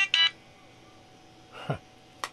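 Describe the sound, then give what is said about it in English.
A cell phone's reminder alert: a short bright electronic beep, then after a pause a quick descending chirp and one final brief high blip, moderately quiet with no one talking. “Okay, just a reminder, folks, from my cell phone, which I failed to update.”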